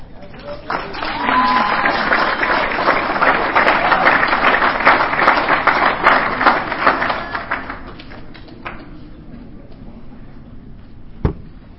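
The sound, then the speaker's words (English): An audience claps, a dense crackling wash of many hands that holds steady for several seconds and then thins out, followed by a single sharp knock near the end. “And those of you who are just clapping, you really don't know what you're getting yourselves into.”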